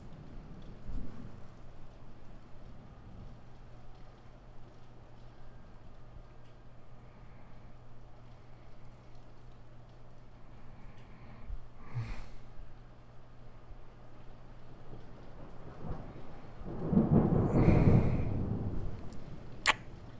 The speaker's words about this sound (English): We're safe. We really are. It's just a little bit of wind and rain and thunder and lightning. It can't get to us.